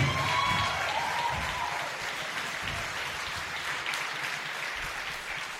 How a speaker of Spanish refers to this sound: ¡Aleluya! Dale un aplauso fuerte.